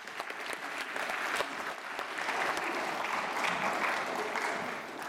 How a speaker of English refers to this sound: Okay, I'm going to invite you to go and sit down again. Thank you so much. Give yourself a clap.